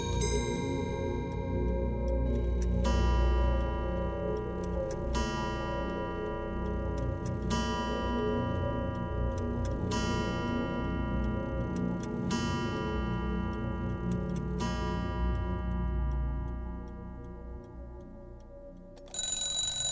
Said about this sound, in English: We're in a shop called Timepiece Antiques. It's the only clock shop in Dublin City. And here we conduct the restoration of pre-20th century clocks of all shapes, designs and origins.